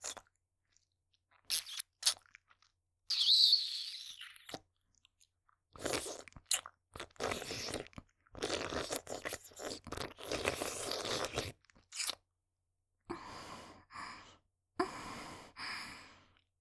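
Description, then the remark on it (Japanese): Wet chewing and mouth noises come in bursts with short pauses, ending in gulping swallows. Breathy sighs sit between the bursts, and nobody speaks. “もぐもぐ、ごっかん”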